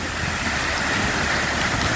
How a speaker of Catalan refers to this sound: És sol aigua, perquè avui anirem pel riu Tet, per sota del llac de la Bullosa, que és un lloc fantàstic.